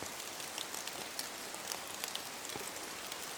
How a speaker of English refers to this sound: You feel the cool droplets of rain against your face and surrender to your fate.